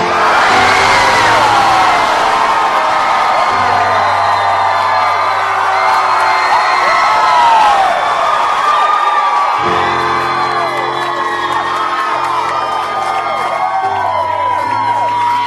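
A large concert crowd roars with cheers and high whoops for about fifteen seconds in answer to being asked if they are happy to be alive tonight, loud and sustained, with many overlapping voices rising and falling over a low hum.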